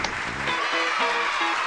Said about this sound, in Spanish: Les voy a presentar al nuevo integrante de Podcast Palabras, que es un amigo mío y también es comediante. Su nombre es Luis Lavanda y quiero que lo recibamos con un fuerte aplauso. ¡Bravo!